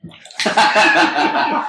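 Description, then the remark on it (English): Beer, the Cheers Motherfucker collab between LCB and Beer Thug Life, pours steadily into a glass: a soft start, then a rushing, fizzy gurgle of liquid that holds for more than a second. “told you before you poured it.”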